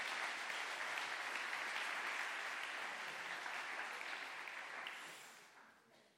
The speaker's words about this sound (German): Applaus nochmal für die beiden.